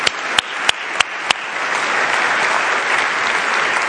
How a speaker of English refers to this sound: Probably not many in here, but can we clap for the people who are standing right now on their campuses?